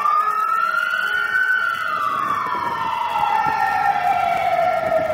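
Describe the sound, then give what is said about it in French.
A fire brigade aerial ladder truck's siren wails loudly, its tone holding high before sliding slowly downward, with a low rumble of engine and road noise beneath and no voices. “Ce véhicule est une échelle, typiquement à grande échelle des sapeurs-pompiers, hein, qui nous permet de réaliser des sauvetages, des missions d'extinction ou de brancardage, hein, mission un peu auxiliaire secondaire, on va dire.”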